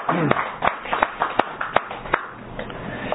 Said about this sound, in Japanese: 盛大な拍手でお祝いを。